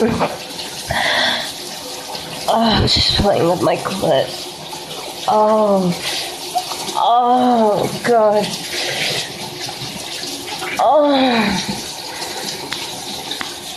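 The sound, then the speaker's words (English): Shower water runs in a steady hiss from start to finish, a constant spray that never breaks, while a woman speaks breathily over it. “This is the first time I've ever tried to bring my phone in here in the shower.”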